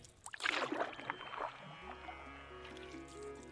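Splashing and sloshing of Ganges river water, like oars dipping from a rowing boat, for about two seconds, then a steady low musical drone with a simple melody takes over.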